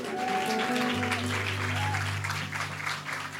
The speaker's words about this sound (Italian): Fate un grandissimo applauso di benvenuto